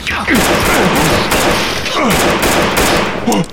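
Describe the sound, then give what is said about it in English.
Several sharp gunshots crack out over a dense, constant roar of loud noise, while voices shout and yell throughout; two shots hit a fleeing man in the back as he pushes inward through double doors on a balcony. “You hit him! Twice in the back as he pushed through the doors inward.”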